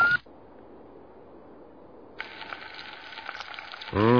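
Eggs frying on a car engine block: a low, quiet hum, then a steady crackling sizzle starts about halfway and holds. A sudden louder, higher sound cuts in at the very end.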